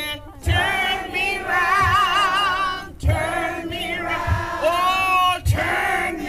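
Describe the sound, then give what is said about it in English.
A loud, sustained roar of a crowd cheering and yelling as a march kicks off in Anchorage, many voices overlapping with rising, wavering shouts on top, while low thuds recur roughly every second beneath the noise. “Back in Anchorage, the chorus of voices kicking off the march grew louder.”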